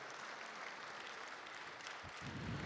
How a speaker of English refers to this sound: You give the Lord a hand clap this morning.